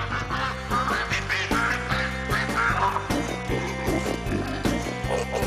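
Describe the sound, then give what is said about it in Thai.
A flock of ducks, used to help fight a locust plague, quacking all at once, a dense, continuous chorus of loud, nasal, overlapping calls with no pauses and no voices. “ซึ่งก็หวังว่าฝูงเป็ดเหล่านี้จะช่วยปราบตั๊กแตนได้สำเร็จเหมือนในอดีตค่ะ”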